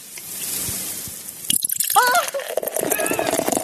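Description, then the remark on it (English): Beer pours: a steady fizzy hiss at first, then louder gurgling glugs with shifting, wavering tones as the liquid splashes into the glass. “The beer pouring.”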